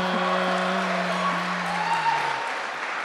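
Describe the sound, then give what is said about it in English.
Steady applause from a crowd fills the whole stretch, a dense wash of clapping over a low sustained hum, with no one speaking. “I've never heard one of the intros, so I don't know why we're all applauding, but hey”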